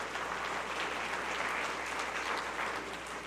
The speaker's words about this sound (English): This year so far, and praise the Lord, we have baptized 22 people. Amen? You can give applause to that.